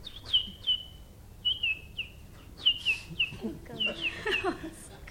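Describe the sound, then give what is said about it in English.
A bird call: a series of short, high, downward-sweeping chirps delivered in quick clusters, clear, with a few rougher, lower notes mixed in near the end. “We don't have names. Not like you, Tom, Sue. My name goes like this.”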